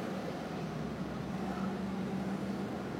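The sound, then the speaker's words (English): A steady, droning engine rumble with a low throbbing hum holds at a constant level throughout, a helicopter circling over traffic on a freeway, with no voices. “Okay, yeah, this helicopter's just circling, so... It's probably a traffic helicopter, then?”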